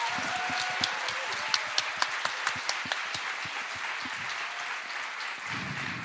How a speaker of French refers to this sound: Merci à tous et à toutes d'avoir été présents pendant ce live. Merci. Vous pouvez vous applaudir, vous avez été super.